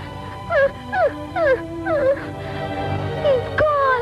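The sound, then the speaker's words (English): A dog whimpers in a series of short, high, descending whines, about five in quick succession with brief pauses, then one more after a gap, over a low steady hum. “I wish I could bring him back. Aww. But all I can do is cry for him.”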